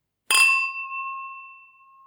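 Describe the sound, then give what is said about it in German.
Wine glasses clink together once with a bright, sharp chime before a wine tasting, then a clear high tone rings on and slowly fades over the next couple of seconds, with no one talking. “Die Gläser, die klingen halt auch ewig.”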